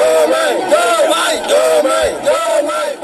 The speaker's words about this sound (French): Des voisins en bonne entente, Bassirou Diomaye Faye a été accueilli en grande pompe par une foule enthousiaste.